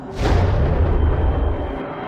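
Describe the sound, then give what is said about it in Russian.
A spacecraft's jet engine roars to life after a button is pressed, surging up within a fraction of a second into a loud, steady rumbling whoosh with a heavy low end that holds without pause. “Одновременно с этим он услышал мерный шум заработавшего реактивного двигателя.”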